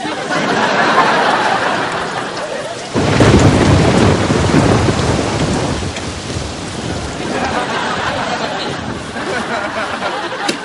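Steady, heavy rain hisses throughout, and a loud thunder rumble rolls in about three seconds in before easing back into the continuous downpour.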